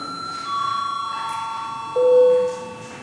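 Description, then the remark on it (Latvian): A steady electronic bell tone rings continuously, shifting to a lower, louder pitch partway through, a parliamentary chamber bell rung before deputies vote on proposals, against a faint room hum with no one speaking. “Balsot. Lūdzu zvanu.”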